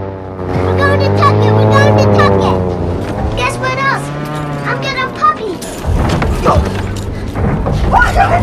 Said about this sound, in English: Next day, a small airplane flies low over the sea.